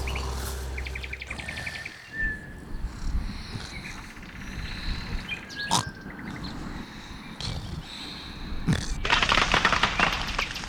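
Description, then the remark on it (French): A toucan's harsh call rings out a couple of times over a dense rainforest backdrop, while sharp metallic clanks and knocks from outside the forest break in at irregular moments, building into a louder clatter near the end. “Le cri d'un toucan fend le ciel, mais le paresseux continue sa sortie.”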